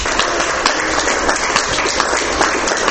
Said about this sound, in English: And beyond that, may I ask you to give us a round of applause for our panelists here.